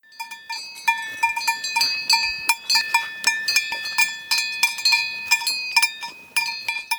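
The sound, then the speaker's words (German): A horse bell, from a group of four horses of which three wear bells, clanks over and over in an uneven, jostling rhythm, its bright metallic tone ringing with sustained overtones between strikes. No voices are heard. “Es gab nur 4 Pferde und 3 davon hatten eine Glocke”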